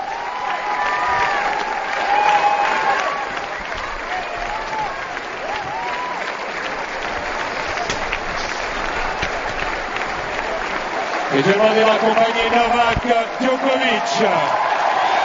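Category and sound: crowd, stadium crowd ovation applause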